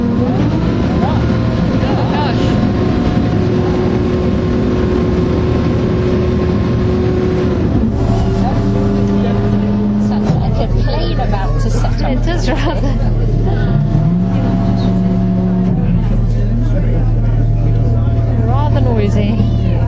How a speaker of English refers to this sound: Hope this recording will work with the noise of the boat.